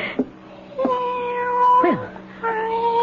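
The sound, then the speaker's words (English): A cat meows repeatedly, a string of loud, drawn-out, wavering cries with a brief pitch drop between them, sounding insistent and plaintive. “Gone off to howl at somebody else. Well, good. All that meowing”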